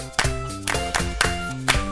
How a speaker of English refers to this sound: Good idea. Let's go back to counting. Clap 1 to 6.